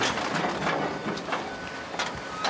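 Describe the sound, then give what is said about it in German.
A large truck maneuvers on a site, loaded full of polypropylene plastic, its engine a steady noisy rumble with hissing bursts, while faint reversing beeps sound under the din. “Ein großer LKW rangiert auf dem Gelände.”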